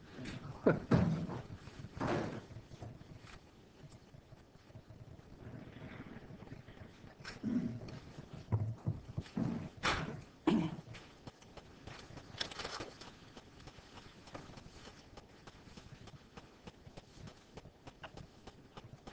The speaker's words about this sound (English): Knocked a piece out of the podium, and it was driving me nuts looking at it down there on the floor.